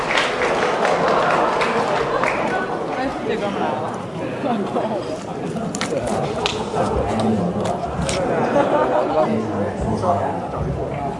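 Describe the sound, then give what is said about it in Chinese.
Steady audience applause at a stage show fills the whole stretch, a dense wash of many hands clapping at an even level, with a murmur of crowd voices running underneath. “感谢您各位的掌声鼓励啊！”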